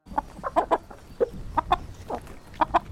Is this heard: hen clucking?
yes